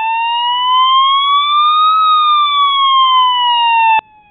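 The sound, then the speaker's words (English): A loud emergency vehicle siren wails, its tone sweeping steadily up and then back down in one long rise and fall before cutting off abruptly. “Well, that wasn't the siren I was looking for.”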